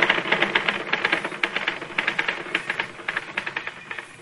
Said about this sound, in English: Just get on with your typing, Constable, and keep your remarks to yourself.